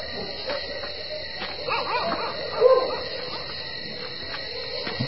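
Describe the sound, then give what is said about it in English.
Several dogs bark and yip against a steady hum of night insects on a warm night on the subcontinent, with one brief, slightly louder yelp near the middle. No one speaks. “Good dogs.”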